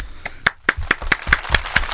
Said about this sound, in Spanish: en el cual le brindamos en este caso un fuerte aplauso y la bienvenida respectiva, ¿no?